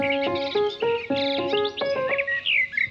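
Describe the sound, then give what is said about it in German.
A songbird chirps in a rapid series of bright, tonal notes and short trills, clear, with no voices. “Und bevor ihr gleich in den Garten rennt, um zu hören, wer bei euch da so zwitschert”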